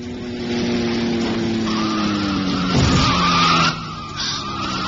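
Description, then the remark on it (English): A car's tires screech in a long, loud skid over a roaring engine as it runs down a man crossing the road in the West End of London on New Year's Eve. The squeal slides downward in pitch, with a brief heavy jolt partway through and no voices. “I mean, just how could a car get up enough speed in the West End of London on New Year's Eve to run down and kill a bloke?”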